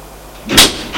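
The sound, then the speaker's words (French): A door opens after a green indicator button is pressed, with a brief, airy whoosh that swells and fades within a moment, followed by a softer second swish. No one speaks. “Elle appuie sur le voyant vert. La porte s'ouvre.”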